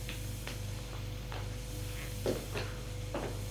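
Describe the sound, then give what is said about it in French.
A door opens with a handful of short, sharp clicks and knocks, like a latch turning and wood shifting, spread unevenly over a steady low hum, with no voices. “La porte s'ouvre.”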